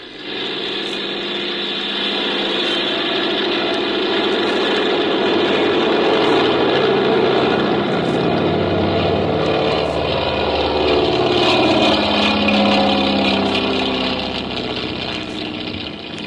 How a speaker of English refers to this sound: Got the plane gas, Folger? Yeah, all set. Well, I guess we can take off.